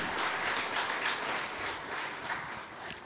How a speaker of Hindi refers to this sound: जोरदार तालियां भाई साहब के लिए.